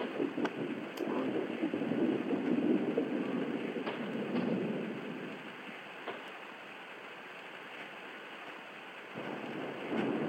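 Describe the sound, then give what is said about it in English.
Steady outdoor rain hissing continuously with a dense, rushing texture, louder in the first few seconds and then easing a little, with occasional faint ticks and patters over it and no voices. “It's interesting how, even in this rain on this world, that with being outside, the oak planks don't seem to decay.”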